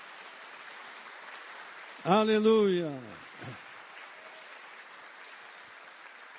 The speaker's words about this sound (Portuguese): Dê para Jesus uma linda salva de palmas.